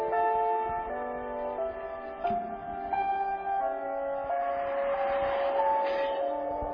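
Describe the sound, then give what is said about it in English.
A Subaru car commercial's soundtrack plays: steady, melodic music with sustained tones and bell-like chiming notes at an even, moderate volume, with no voices over it. “It's a Subaru commercial.”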